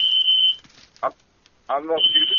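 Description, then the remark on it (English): A piercing, steady high-pitched building fire alarm tone sounds, cuts out briefly while a voice speaks, then resumes just as loud and continuous. “Where's the fire alarm coming from? Is it from your unit or somewhere else?”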